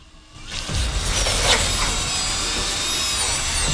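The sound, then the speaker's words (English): A surgical drill whirs steadily as it bores holes into an awake patient's skull, a continuous grinding whine that starts after a brief quiet moment and holds at an even, fairly loud level with no talking. “opens his eyes as the drill bit penetrates his skull.”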